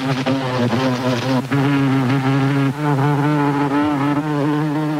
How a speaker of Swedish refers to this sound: Det mesta jag hittar är skalor med surrande insekter i olika toner.